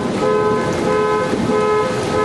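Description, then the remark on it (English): A loud, steady electronic tone with strong harmonic bands blares continuously outdoors: a car alarm set off by loud thunder, sounding without pause over a faint background rumble. “That thunder was so loud, it set off a car alarm.”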